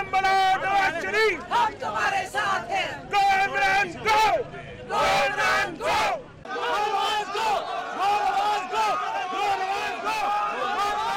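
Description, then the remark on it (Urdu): A crowd of workers from the ruling party and Tehreek-e-Insaf chants slogans against each other outside the Supreme Court, loud, rhythmic bursts of many voices shouting together in repeated call-and-response waves, continuous with brief pauses between phrases. “گو کہ حکمران جماعت اور تحریک انصاف نے یہ کہہ رکھا تھا کہ انہوں نے اپنے کارکنوں کو سپریم کورٹ نہ آنے کی ہدایت کر رکھی ہے, لیکن اس کے باوجود دونوں ہی جماعتوں کے کچھ کارکنان یہاں موجود تھے جو ایک دوسرے کے خلاف نعرے بازی بھی کرتے رہے.”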